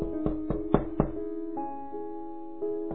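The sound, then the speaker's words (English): Four quick, evenly spaced knocks on a door, followed by a couple of softer, scattered taps, all over a steady humming tonal background with no one speaking. “Why don't you get the door,”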